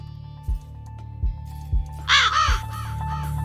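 Several harsh raven caws ring out over a steady low musical drone, interspersed with a few deep thumping beats, forming a short jingle with no talking.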